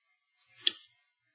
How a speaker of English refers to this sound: Boy, that clock's ticking fast.